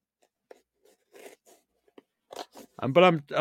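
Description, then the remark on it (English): Short, scattered crinkles and rustles of gift wrapping paper being handled and torn while a package is unboxed live on a show, quiet at first, then a louder tearing burst as a voice begins talking over it at the end. “It's all wrapped. It's very pretty.”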